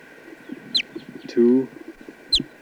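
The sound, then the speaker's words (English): A test bird, number 248, calls while being recorded: two sharp, high chirps bracket a brief, louder, lower-pitched harmonic squawk in the middle, all over a steady mechanical hum. “So now just trying a test bird 248. That's him right here.”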